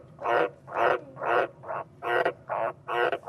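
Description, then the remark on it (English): An Australian green tree frog calls in a steady series of seven loud, rasping croaks, each about a third of a second long, evenly spaced, with a deep, rumbling quality and no voices. “He's the iconic green tree frog of Australia.”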